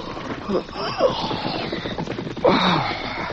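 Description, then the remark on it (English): Rapid, steady hoofbeats of two riderless horses approaching a camp on a moonlit night clatter in a continuous rhythm, mixed with brief higher-pitched vocal sounds, one rising sharply near the end. “Hearing approaching hoofbeats, Dan yawned and sat up.”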